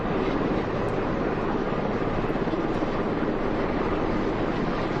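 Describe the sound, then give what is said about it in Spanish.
A helicopter patrolling the perimeter for security in Davos, Switzerland drones steadily overhead, its dense, continuous rotor and engine roar filling the whole stretch at a constant, fairly loud level without fading in or out. “Los helicópteros vigilan el perímetro, velan por la seguridad.”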